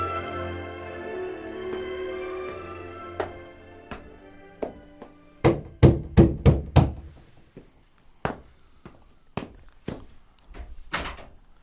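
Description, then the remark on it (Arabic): A series of sharp, loud knocks on a wooden door, coming in uneven bursts: a quick cluster of raps, then slower single knocks, over a faint low hum with no voices. “فلما أصبح سمع طرقات على الباب.”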